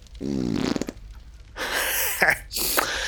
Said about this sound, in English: Then he pauses, leans forward, and farts.